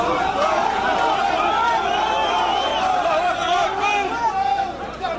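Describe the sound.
A dense, agitated crowd outside a hospital babbles loudly and continuously, many voices overlapping with raised, excited shouts and calls rising above the steady roar of chatter, excited by a rumour that their forces have entered Bani Walid.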